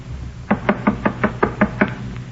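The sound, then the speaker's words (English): A quick series of eight firm knocks on a wooden door by a police officer, evenly spaced, with no voices. “Stops at that door. Come on.”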